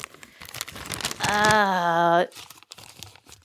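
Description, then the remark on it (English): Crackly paper crinkling as a crumpled paper flyer is pulled open, with a brief drawn-out vocal sound rising over the rustling midway before the crinkles continue. “I crumpled it. Well, uncrumple it. Give me that.”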